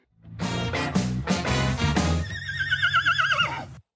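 A horse whinnies loudly, a series of bright, quavering neighs that rise, shake, and trail off in a long wavering call, with no talking.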